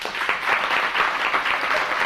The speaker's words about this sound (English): So are we here to celebrate? Let me hear you clap your hand for Arthur.